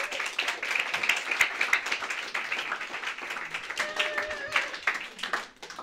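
A crowd applauds steadily, a dense wash of many hands clapping at once, sustained for several seconds before thinning out at the end, with a faint whistle or cheer rising partway through.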